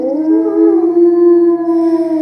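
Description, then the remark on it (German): A single wolf howl, a long sustained tone that holds steady and slowly sags in pitch, heard clearly with no talking. “Der Wolf.”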